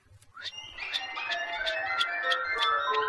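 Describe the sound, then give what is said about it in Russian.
Duck wings whistling in flight, in autumn, from a flock of a breed of duck whose wings whistle as they cut the air, flying too high overhead to be seen: a thin, steady whistling tone pulsing in quick, regular beats, about two or three per second, rising slightly in loudness and continuing without any voices. “А есть такая порода уток, когда они летят, то их крылья, рассекая воздух, точно поют, или лучше сказать, посвистывают.”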